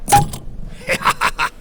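A bottle of Vielanker cherry soda is popped open with a short, sharp burst, followed by a quick series of soft hissing puffs, with no talking.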